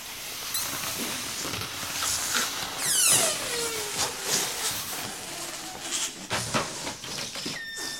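Red balloons being blown up all at once as votes in a mock parliament (Folketinget) vote: a steady wash of breathy puffing and rubbery squeaks, with a shrill squealing whine sliding up and down midway and no talking.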